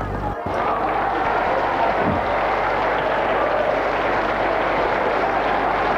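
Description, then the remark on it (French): Journalists and group members leaving a press conference applaud steadily and loudly for several seconds, a dense wash of many hands clapping at once, with murmuring voices mixed in underneath. “Les journalistes et gens du groupe s'en vont et applaudissent.”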